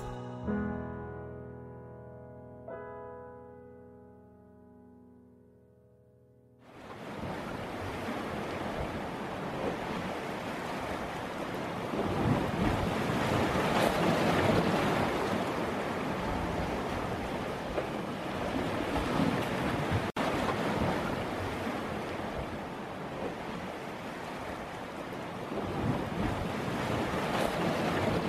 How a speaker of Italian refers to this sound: Mare, mare, non ti posso guardare così, perché questo vento agita anche me.